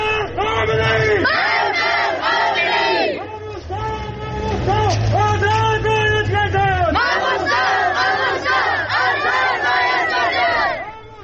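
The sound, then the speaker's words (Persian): A large crowd of protesters in Sanandaj chants loudly in unison against increased pressure on Sunni clerics, demanding the release of two Sunni mamostas, repeating rhythmic slogans in rising and falling phrases, with a steady murmur of voices underneath. “در سنندج نیز علیه تشدید فشارها بر روحانیون اهل سنت تظاهراتی برگزار شد و معترضان خواستار آزادی دو ماموستای اهل سنت شدند.”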